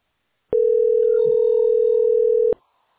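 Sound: telephone ringback tone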